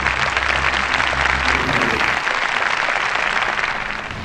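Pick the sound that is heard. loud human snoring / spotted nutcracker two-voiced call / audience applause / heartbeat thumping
audience applause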